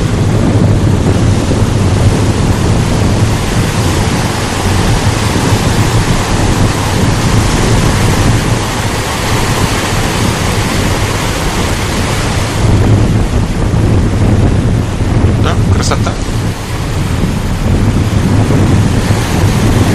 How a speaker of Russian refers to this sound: А вот океан очень красиво. Солнышко светит.